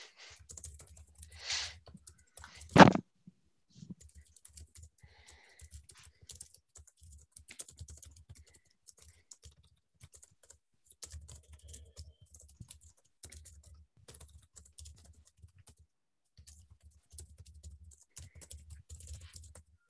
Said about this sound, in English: Sorry, just typing up here.